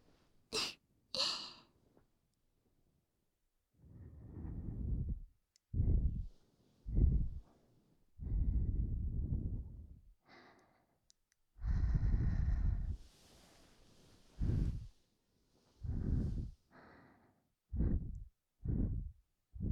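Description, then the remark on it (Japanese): A series of close, breathy puffs blown right into the microphone, each a soft rushing gust with a low rumble, coming in irregular bursts with short pauses and no talking. “フェザータッチも吐息も気持ちいいけど、あくまでも刺激は控えめで、強い刺激があるわけじゃないから”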